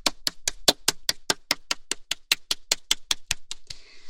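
Classroom applause congratulating a student: about eighteen sharp, crisp claps in a steady, even rhythm at a quick regular pace, ending with a short burst of scattered noise. No one speaks.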